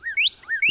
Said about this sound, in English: There it is. Yeah, there it is. I hear that cardinal, and I know that I can look. I look immediately to the top of the tree. Uh huh. Because that's where you're going to find it. Yep, they like a good prominent perch where they can belt out that song